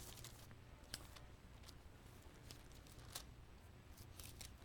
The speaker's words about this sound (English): I am the only one turning pages, and that is not right. Look at Hebrews chapter 1.